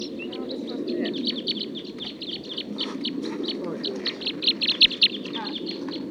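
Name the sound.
wild bird song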